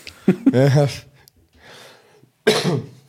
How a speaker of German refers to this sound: Wo ich gerade schon halb ins Mikro huste, ich entschuldige mich jetzt schon mal, ihr werdet mich noch einige Male husten hören, ich bin noch ein bisschen stimmlich angeschlagen.